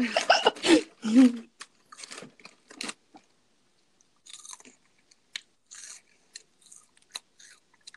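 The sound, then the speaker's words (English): A loud bite into a crunchy hot Cheeto cheese puff snack, followed by several seconds of crisp crunching and chewing with scattered sharp cracks and soft mouth sounds, no talking. “Oh, I've got hot Cheetos. I ate mine already. I'm going to crunch into one.”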